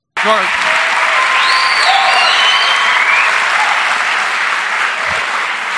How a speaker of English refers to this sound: The applause of these cucks.